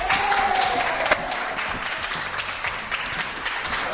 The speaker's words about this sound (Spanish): Vítores, aplausos, era una cosa de un horror. Era de todos los ministros en un vídeo, sinceramente para el bochorno, que se encargó de distribuir la factoría Iván Redondo Productions.